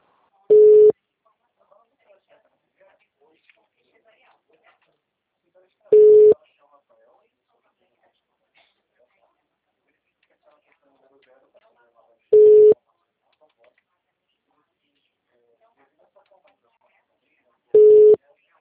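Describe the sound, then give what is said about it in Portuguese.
A telephone line tone sounds four times, each a short, steady mid-pitched beep spaced roughly six seconds apart, with near silence and faint murmurs in between. “Só para eu ter, viu, que eu vou aqui atender esse telefone.”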